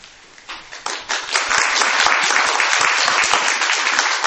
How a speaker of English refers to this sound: Usually when people clap at the beginning, it means they won't clap at the end.